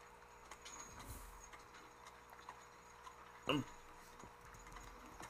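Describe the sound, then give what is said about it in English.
Soft, steady clip-clop of the hooves of a horse pulling a carriage, heard from inside the carriage cabin during a nighttime carriage ride, beneath a quiet, low ambient hum, with one brief louder sound partway through. “So you hear the horse footsteps, and if you see the screen, you're inside this cabin of a horse carriage”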